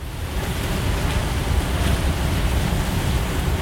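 geyser erupting

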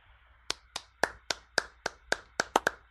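golf clap

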